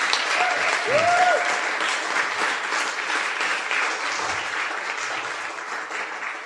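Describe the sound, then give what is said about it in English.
A crowd applauds steadily, a dense wash of many hands clapping at an even, loud level throughout, with a brief whistle near the start. “A round of applause.”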